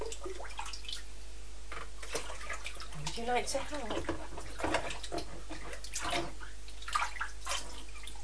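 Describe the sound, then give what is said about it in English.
Bath water sloshes and pours in repeated uneven splashes as it is scooped with a red bowl and tipped into a red bucket to empty some of the bath water, while an adult speaks softly between the pours. “think Mummy's going to empty some of this. And then there's not quite as much for you to splash around in.”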